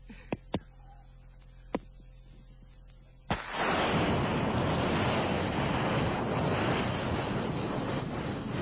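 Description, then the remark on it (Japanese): A voice imitates a gas burner lighting: a few sharp igniter clicks, then a sudden loud, steady whooshing roar of flame that continues unbroken to the end. “バーナーいいですよ。ブーってな、髪の火がバーッと大きくね、 はい、 ついてる感じしましたけどね。”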